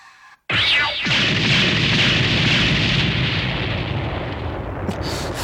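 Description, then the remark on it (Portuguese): After a moment of near silence, a powerful weapon blast erupts, with a quick falling whine, then a loud, sustained roaring rumble that lingers to the end. “Outro disparo e quedaremos en blindaxe.”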